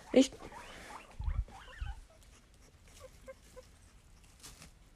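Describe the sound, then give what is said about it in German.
A guinea pig lets out a sharp, high squeak at the start, followed by softer chirps and rustling shuffles with low thumps scattered through the rest. “Das ist mein Meerschweinchen.”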